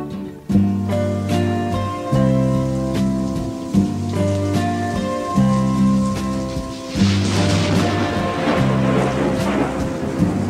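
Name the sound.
rain falling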